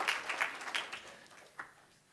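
Light applause from a gathered crowd, a scattered patter of claps that thins out and fades within a couple of seconds, fairly quiet and somewhat distant, with no talking.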